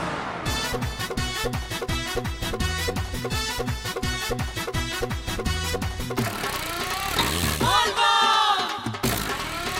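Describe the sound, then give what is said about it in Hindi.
A vehicle engine is started by its driver and chugs in a steady, fast mechanical rhythm, then revs up with rising, whining sweeps before settling. Loud, with no voices. “ए driver बम, चालू कर गाड़ी।”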